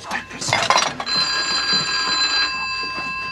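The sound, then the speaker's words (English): A telephone rings with a steady, bright electronic tone that holds for a couple of seconds, following a brief burst of busy, voice-like noise at the start, a call from the 'Guess That Tune' quiz show that opens the film. “The most popular was one called Pot of Gold, where the host would call the public after picking their number out of the phone book for a chance to win prizes.”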